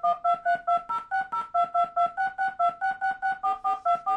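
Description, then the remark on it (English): A rapid sequence of about twenty short electronic DTMF touch-tone beeps for punctuation characters, each a steady two-pitch chord, evenly spaced with brief gaps, the pitch pairs shifting from tone to tone like dialed keypad digits. “Fourth, the punctuation dual-digit touch tones.”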